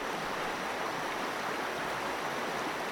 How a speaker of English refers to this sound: This week, that sound of the North Fork Holston River in Smith County, Virginia